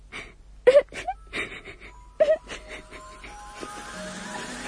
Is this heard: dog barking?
no